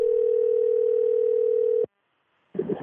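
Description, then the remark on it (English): A phone line rings once with a steady, mid-pitched ringback tone lasting about two seconds, followed by a brief silence and then a burst of muffled line noise as a call to an aunt connects. “I called her up to see if the storm named Sally annoyed her, but it didn't.”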